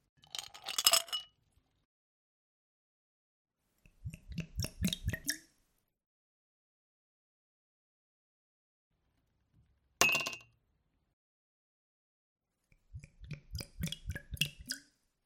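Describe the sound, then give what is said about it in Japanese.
Glass clinks and the pouring of a double whisky come in four short bursts separated by quiet pauses, with one bright, ringing clink of glasses for a toast near the middle. No one speaks. “ウイスキーをダブルですね。銘柄は、お任せで。かしこまりました。では、こちらで。”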